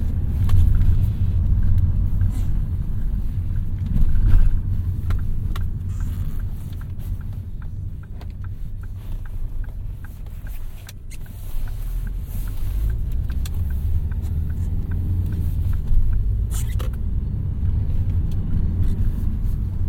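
Steady low rumble of a car engine driving around town to warm up, passing Wolseley Centre and a canal, heard from inside the vehicle, with the drone rising and easing slightly as it drives along; a few faint clicks and road noises, no talking.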